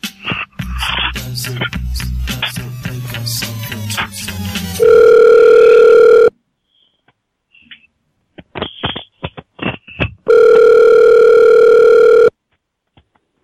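A burst of rapid clicks and dialing beeps as a phone call is placed to someone selling a horse machine, then the line rings: two steady, loud buzzing rings about two seconds each, separated by a quiet gap with faint clicks, no voices.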